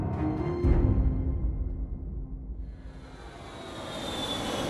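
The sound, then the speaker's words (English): The engines of a Hawker 700 executive jet bound for Fort Lauderdale drone steadily in flight on a late evening in January 1994: a deep continuous rumble with faint tonal hum, then a brighter rushing whine builds over the last couple of seconds. No one speaks. “Inside a Hawker 700 executive jet bound for Fort Lauderdale,”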